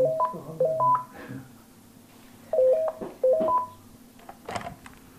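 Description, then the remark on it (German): A telephone at the Bimbo Sano advisory team sounds two short bursts of quick, stepped electronic tones, separated by a pause, with faint background noise and a brief rustle near the end. No one speaks. “Bis zu 50 Mal am Tag chattert das Telefon beim Beratungsteam.”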